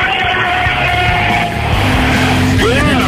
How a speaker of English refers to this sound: Everybody, have everybody yell, start your engines at the count of three. You do the count, okay? On the count of three, start your engines.